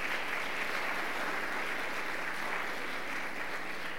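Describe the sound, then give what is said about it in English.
A room full of people claps steadily for a few seconds, a dense, even patter of applause with no voices standing out, for a boy from St. Mark's named to an all-tournament team. “Let's give him a quick round of applause.”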